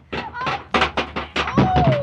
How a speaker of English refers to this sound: Oh, he fell down. You knocked him off the ladder.